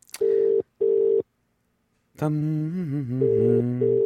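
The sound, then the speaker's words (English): A UK telephone ringing tone, on a call placed to a UK phone number, gives one double burst, two short steady electronic buzzes close together, followed by a pause. Then a person starts speaking as the call connects. “And the phone should be ringing at any moment.”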